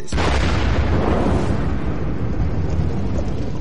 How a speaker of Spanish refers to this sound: Por ejemplo, si te encuentras a 10 o 15 metros de donde cae un proyectil de 105 milímetros, la explosión te parte en pedazos.